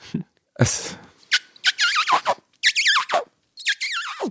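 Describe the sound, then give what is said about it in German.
A voice imitates a high, wavering squeak in several short bursts, with a breathy noise near the start and brief pauses between the squeals, fairly loud. “Das ist eher so ein Quietschen, ne? Ja, aber das kommt ihm sehr nahe.”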